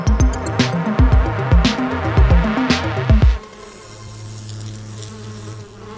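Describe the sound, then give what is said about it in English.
A swarm of insects buzzes in a dense, droning hum. It is loud and pulsing at first, then settles into a steadier, quieter low drone. No one speaks. “After learning about how much of a spark these insects can generate together, it may be time to start taking into account all that extra buzzing up in the air.”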